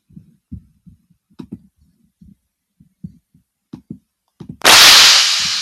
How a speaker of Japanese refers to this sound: あ、これムチがほんといい感じで入ったな。